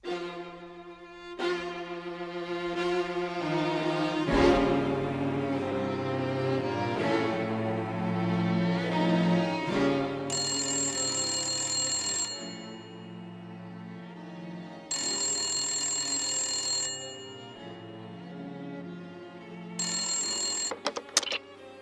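A telephone rings at 3 a.m. in the Romanian National Radio Theatre play Vara Marelui Război. It rings in three shrill, high-pitched bursts with pauses between them, sounding over steady orchestral music that plays throughout.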